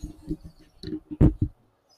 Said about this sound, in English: Okay, so we've got some bubble on that pot. We're just about to a boil. You can see those bubbles coming to the center and you can hear it. I'm gonna bring my microphone over. Can you hear that? That's the sound of almost bubbling.